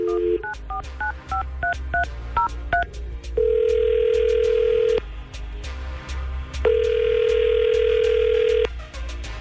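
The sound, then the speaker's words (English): Quick touch-tone dialing beeps, then a steady ringback tone repeating twice in long bursts with a pause between, clear with no one talking, as a radio station calls a man's phone in the morning. “we're going to try to call Ryan right now and see”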